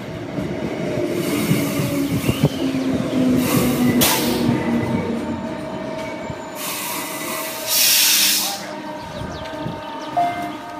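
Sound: train riding on rails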